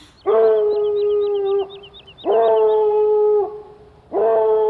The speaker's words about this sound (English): I never heard so musical a discord, such sweet thunder. Me hounds are bred out of the Spartan kind. No? Slow in pursuit, but matched in mouth like bells, H under H. A cry more tunable was never hollowed to nor cheered with horn.